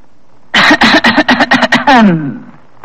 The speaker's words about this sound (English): Would you clear your throat like this?